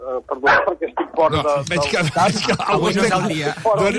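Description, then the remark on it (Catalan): A passing dog barks several times in quick bursts near the start, then keeps yapping faintly beneath a person talking steadily over it. “I passa un gos i que abordava.”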